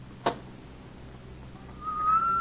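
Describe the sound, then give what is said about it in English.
A brief scratchy burst of a match being struck is followed by quiet, then a low, soft, steady whistle that gradually swells a little louder toward the end, with no voices. “As the match flared, I heard a low, clear second whistle.”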